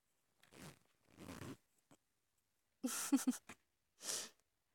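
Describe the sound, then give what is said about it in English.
A trouser zipper is worked open in several short rasping pulls with brief pauses and a faint click between them, then one final quick zip. No one speaks. “Or see and feel my hands fumbling at your belt and working at your zipper?”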